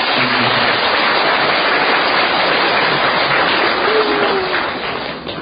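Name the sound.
big round of applause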